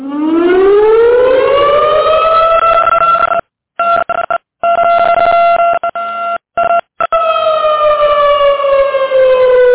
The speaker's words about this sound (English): I guess it's time to sound the alarm.